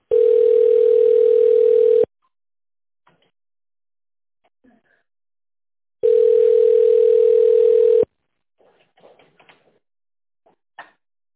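A telephone ringback tone sounds twice while a call is being connected to an operator, each a loud, steady two-second hum separated by a long silent pause, followed by a few faint clicks and rustles.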